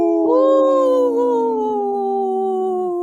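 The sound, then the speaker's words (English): A single long wolf howl rises sharply, then holds a steady, slightly wavering tone for about three seconds before dropping off at the end; loud, with no other sounds. “In this portion of the show, we like to bring awareness to our Minnesota wolf population.”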